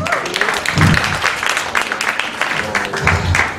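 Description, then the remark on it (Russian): A crowd applauds steadily, welcoming a sketch about two chess players, a dense, loud wash of many hands clapping, sustained throughout without a break, with a few faint voices mixed into the noise. “Ваши аплодисменты, два шахматиста.”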